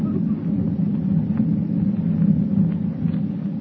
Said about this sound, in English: With thunder rolling across the dark ocean like a warning of impending doom, Clark Kent watches the minutes slip by